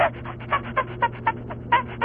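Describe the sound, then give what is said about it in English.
A person imitates chimpanzee noises: a quick, steady series of breathy, panting hoots, roughly eight bursts in two seconds, fairly loud over a low steady hum. “You just went into a whole chimpanzee routine.”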